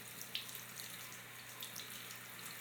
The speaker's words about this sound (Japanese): じゃあ一旦シャワー止めますね。